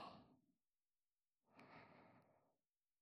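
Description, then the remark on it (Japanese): Two soft breaths blown into the microphone, the first fading out within half a second and the second a longer airy exhale after a pause, with no talking. “私の吐息を味わってください。”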